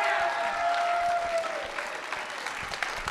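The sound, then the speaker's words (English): A crowd at Lost River Sessions Live at the Capital Arts Center in Bowling Green, on a rainy Thursday, claps and cheers steadily, the dense patter of many hands, with a sustained whoop rising above it near the start before the applause carries on. “Let's hear it for Lost River Sessions Live.”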